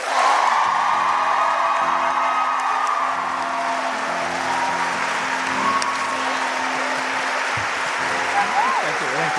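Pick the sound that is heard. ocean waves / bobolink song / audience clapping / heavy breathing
audience clapping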